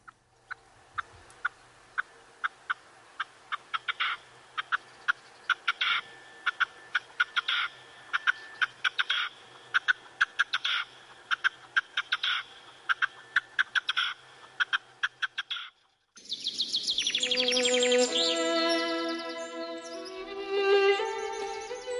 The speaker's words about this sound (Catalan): Doncs, si et sembla, tornem a escoltar el cant de la perdiu roja.